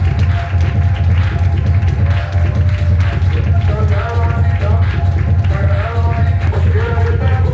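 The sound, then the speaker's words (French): Dense, steady applause from a fashion show audience as the models come out fills the whole stretch, mixed with crowd murmur and a constant low, bassy music bed underneath. “Et les applaudissements du public.”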